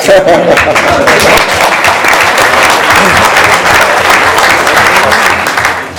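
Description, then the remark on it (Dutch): Sustained audience applause in Bezel for the new mayor's wife and daughters, a dense steady wash of many hands clapping at full loudness for about six seconds, with a brief voice at the start and tapering slightly at the end. “Dus die dames die verdienen echt een heel groot applaus.”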